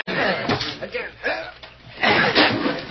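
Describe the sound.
A door is forced in by eight or ten men pushing it, with several heavy, splintering thuds in a rough rhythm, the loudest crash near the end, while men's voices grunt and shout throughout.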